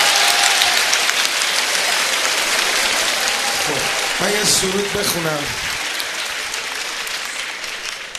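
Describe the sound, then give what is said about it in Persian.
A crowd claps steadily in a dense, continuous patter of applause at a religious hey'at gathering, with a man's voice speaking over it partway through. “برو کف قشنگه، برو.”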